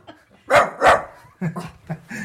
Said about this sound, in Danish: Vi har hund her. Åh oh, ja, det kan jeg se.